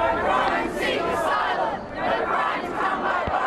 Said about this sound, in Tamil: கோஷமிட்டு சென்றவர்கள் ஆஸ்திரேலிய அரசை கண்டிக்கும் விதமான பதாகைகளையும் ஏந்தியிருந்தனர்.